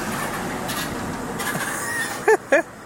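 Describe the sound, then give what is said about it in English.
A truck's engine drones and rumbles steadily as it drives up a mountain road, then two short, loud, wavering squeaks cut through in quick succession near the end; the truck has a squeaky flathead. “That was a random truck that just drove up this mountain.”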